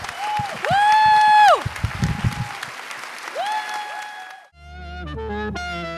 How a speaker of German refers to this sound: Klatscht für ihn und den Anzug und bitte noch einmal richtig Lärm